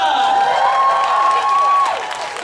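A crowd breaks into dense, steady clapping mixed with high, drawn-out whoops and cheers, loud and sustained throughout before easing slightly at the end.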